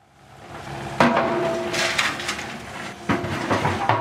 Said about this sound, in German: Die Baggerschaufel wühlt sich schon frühmorgens in den trockenen Boden. Es riecht nach Erde und Staub auf dieser Baustelle mitten in Frankfurt.